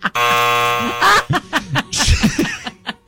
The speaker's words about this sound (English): Oh, see, you're already out. Give yourself a buzzer. Oh, dang it.